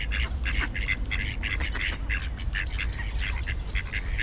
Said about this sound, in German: Ja, das klingt für mich alles wie ganz normales Entengeschnatter.